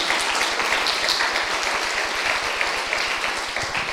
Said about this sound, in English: And so they just finished up. Could you give a round of applause to the five graduates and five participants who helped with this?